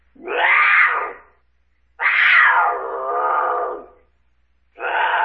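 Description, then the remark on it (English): A mountain lion screams in loud, drawn-out wails: two long, rising-and-falling cries a second apart, then a third starting, harsh and raspy, alone with no talking. “Mountain lion?”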